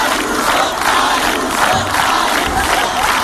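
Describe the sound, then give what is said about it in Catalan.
A large crowd at a plaza in Madrid chants Isabel Díaz Ayuso's name in unison as she is about to speak, a loud, dense roar of many voices with a steady rhythmic pulse as the same short phrase is shouted over and over, with no single voice standing out. “Crits d'Ayuso.”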